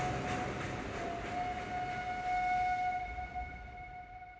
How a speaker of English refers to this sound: Still smiling, Dillinger flashes a wink as the whistle of the train echoes in the surrounding, expansive farmland as they drive away.